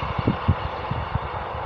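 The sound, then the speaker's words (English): A train passes on a railway, a steady broad roar with soft, irregular low thuds like wheels clattering over rail joints. No one is speaking. “You can hear now there's just a train passing on the railway.”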